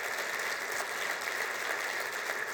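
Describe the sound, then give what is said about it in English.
A crowd claps steadily for a couple of seconds in a round of applause for an event's presenting sponsors, a dense, even patter of many hands at moderate volume with no voices over it. “So let's give those folks a round of applause for being our presenting sponsors for today.”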